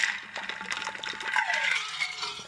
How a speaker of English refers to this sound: And let me take a sip of water real quick.